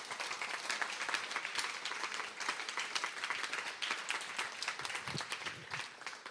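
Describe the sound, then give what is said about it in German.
An audience applauds steadily for about six seconds, a dense, even wash of many hands clapping at a sustained moderate level with no voices standing out. “Ist das ein Applaus wert?”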